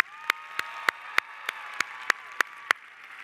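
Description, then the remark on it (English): Applause in a steady, even rhythm: about ten sharp, distinct claps roughly a third of a second apart, over a faint sustained tonal hum, with no talking. “Let's give Ben a round of applause.”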